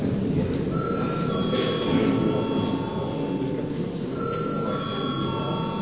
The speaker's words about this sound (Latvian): Lūdzu zvanu.